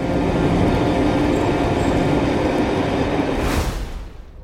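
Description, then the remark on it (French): A train roars through a tunnel with a dense, steady low rumble and rattle, loud, then a brief whooshing surge before the noise begins to fade away. “Oh, un tunnel!”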